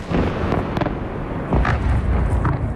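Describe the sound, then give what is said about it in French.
Loud, rumbling explosions from Russian bombing of Ukrainian cities burst repeatedly over a dense roar, with sharp blasts landing roughly every second and no voices heard. “De violentes explosions, des immeubles en feu, des voitures explosées et des secouristes qui retirent les corps des décombres.”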